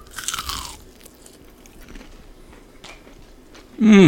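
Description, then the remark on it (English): A loud crunch as someone bites into a crispy buttermilk-marinated fried chicken sandwich with pickles and lettuce, followed by several seconds of softer, crackly chewing, then a brief voiced sound at the end. “It is so crispy. You get the tang from the buttermilk, pickle flavor, and the crunch from the pickles and the lettuce.”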